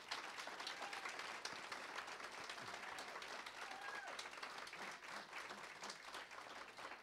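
An audience at a center claps steadily for several seconds in applause for its minister, a dense, even wash of many hands with no breaks, holding at a constant level throughout.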